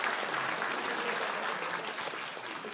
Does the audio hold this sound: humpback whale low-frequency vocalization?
no